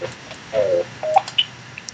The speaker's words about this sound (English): Sorry for that. What are you playing a game over there? Sounds like a phone.